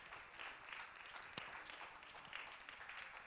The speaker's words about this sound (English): Why don't you applaud the Lord for his goodness?